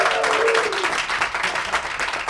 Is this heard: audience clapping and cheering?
yes